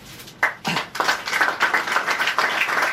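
An audience applauds with steady, overlapping claps that start abruptly and continue as a dense, bright crackle throughout, with no voices over them.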